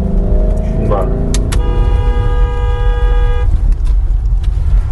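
A loud truck engine rumbles steadily throughout while a mother drives the truck, with a brief horn-like tone sounding for a couple of seconds over the heavy low roar.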